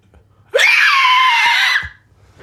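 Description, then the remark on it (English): A single sustained inhaled scream, a black metal vocal technique made by sucking air into the lungs, harsh and raspy, lasting over a second at loud, steady intensity, then cutting off abruptly; no speech around it. “So that's an inhale scream.”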